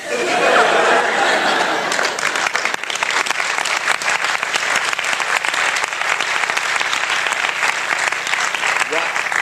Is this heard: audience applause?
yes